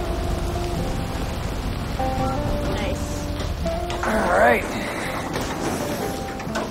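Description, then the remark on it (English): Steady rain hisses continuously and fairly loud at a gas station, over a low droning hum, with a brief rising whir partway through. “Later, Lena and Max arrive at a gas station in the rain.”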